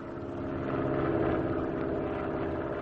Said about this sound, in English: Forgotten until not too long ago, when an old friend of mine was flying over that area in his small plane.